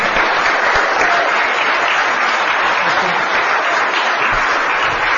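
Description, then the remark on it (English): Steady, dense applause from a crowd for Mayor Warren in a chamber fills the whole stretch, many hands clapping in a loud, even wash of noise with no voices standing out. “How about a nice round of applause again for Mayor Warren?”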